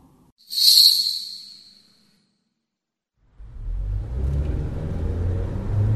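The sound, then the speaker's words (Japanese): A bus passes by: a sharp, high air hiss fades out, a moment of silence follows, then a deep, steady engine rumble rises and continues to the end. No voices. “さっとバスは過ぎていった。”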